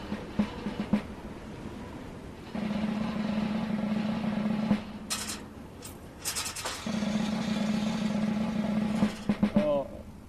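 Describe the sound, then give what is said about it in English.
Ropes creak and groan under heavy strain as the wooden arms of a catapult are winched back, in two long, strained, low-pitched drones with a rough buzzing edge, broken by brief sharp clicks and ending in a clatter. “because the creakage and ropeage here is really unpleasant.”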